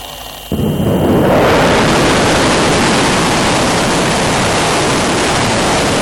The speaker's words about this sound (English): Iran's Islamic Revolution Guards Corps fired 16 ballistic missiles in a fitting conclusion to its latest exercises. The IRGC confirmed that the missile hit and destroyed their intended target